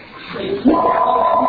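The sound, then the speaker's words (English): A telephone rings with a steady electronic tone that starts abruptly partway through and holds at a fairly loud level, with a faint muffled background before it. “The phone is so do I have to turn off my phone for Shabbos?”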